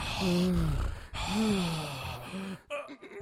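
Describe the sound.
A voice imitates a man breathing heavily while sitting on a toilet in a bathroom: two long, loud, breathy exhales with a groaning, voiced edge, followed by a short final huff.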